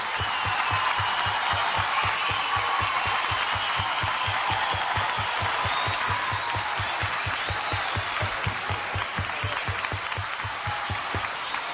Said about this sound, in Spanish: Aplausos para ella, muchas gracias.